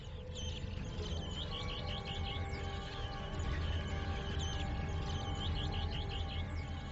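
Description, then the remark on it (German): A bird lookout gives a steady series of sharp, rising alarm calls, repeated many times over several seconds, warning the others of a young raven after the chicks, against a constant low rumble of wind or background noise. “Einer der Aufpasser sieht den Raben und warnt die anderen.”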